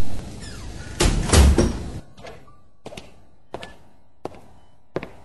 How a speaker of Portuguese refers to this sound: volta ao quarto, abre a porta e depara-se com uma linda menina de traços orientais.